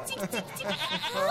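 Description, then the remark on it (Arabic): A voice imitates a goat's bleat: a wavering, nasal, trembling call held for just over a second, moderately loud, with no other sounds around it. “ما ولا أستطيع أن أتكلم مثل المعز.”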